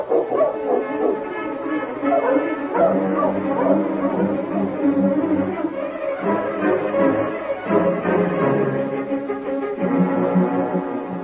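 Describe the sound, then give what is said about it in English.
A pack of sled dogs barks and yips excitedly in a dense, overlapping chorus, loud, with higher whimpering cries mixed in throughout, as the dog team is roused to travel. “Get the dogs up, King.”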